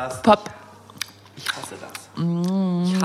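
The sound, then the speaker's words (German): Wet lip smacks and mouth clicks, about four of them spaced irregularly, as someone drinks a thick smoothie, followed by a sustained voiced sound near the end. “Naja, ich trinke gerade einen Smoothie und der ist so hart, kannst dass der da nicht rausging.”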